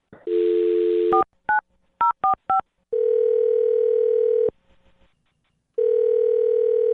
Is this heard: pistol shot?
no